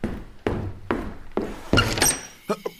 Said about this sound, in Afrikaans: ek is regtig jammer ek klop so laat aan, maar ek het dringende nuus.